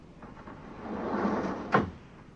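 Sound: automatic door opening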